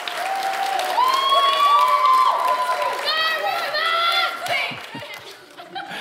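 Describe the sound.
An audience claps steadily for several seconds, a dense crackling wash of hands, with whoops and cheering voices rising above it before the applause thins out toward the end.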